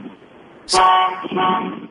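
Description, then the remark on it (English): Two loud car horn blasts from annoyed motorists, a long sustained honk followed by a brief gap and a second shorter honk, over faint low traffic rumble. “Pissing off motorists.”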